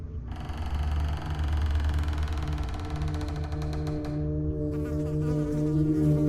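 A dense, steady buzzing of flies, a continuous droning swarm with shifting tones as insects move around, no voices present.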